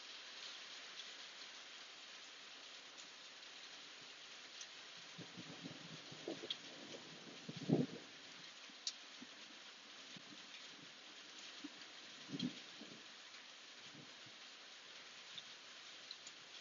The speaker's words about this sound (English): We're here in the stormy New Mexico, where lightning and thunder abounds.